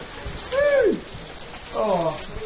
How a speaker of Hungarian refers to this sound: Oh! Oh my god! Ez az eső is sajnos.